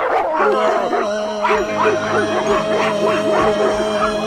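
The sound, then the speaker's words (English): A chorus of 97 dogs barking and yipping at once, dense and overlapping with rhythmic bursts throughout, some higher whines and howl-like tones mixed in, fairly loud. “Even with 97 dogs?”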